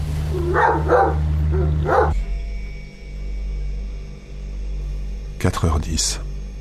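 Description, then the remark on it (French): A dog barks at 3:30 at night in short bursts, two quick barks, then a long pause, then a final pair, over a steady low electrical hum. “Il est 3h30. Ce chien me rend fou.”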